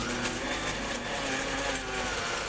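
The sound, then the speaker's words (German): An espresso machine, just switched on, runs with a steady, fairly loud mechanical whir and buzzing hum, continuous and unchanging for the whole stretch, with no talking. “Ich schaltete die Espressomaschine ein.”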